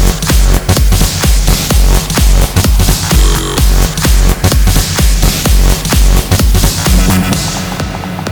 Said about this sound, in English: Then, use a crash. Snare drums can't get enough.